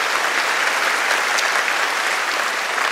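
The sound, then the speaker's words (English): An audience in Grantsville claps steadily, a dense, loud wash of many hands with no distinct beats, sustained evenly throughout without any voices rising above it. “And I know I have you clapping a lot, but I have to acknowledge one more group.”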